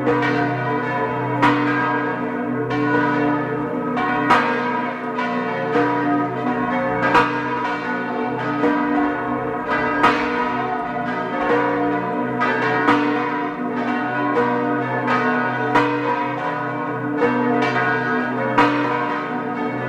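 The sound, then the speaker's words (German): Several large bells of the parish church of St. Barbara in Fliers, Tyrol, on a plateau outside the village, ring at 12 noon, pealing together in a continuous, overlapping clang, steady and loud with rich ringing overtones, strikes recurring irregularly throughout with no voices present. “Es ist 12 Uhr. Sie hören die Glocken der Pfarrkirche zur heiligen Barbara in Fliers in Tirol.”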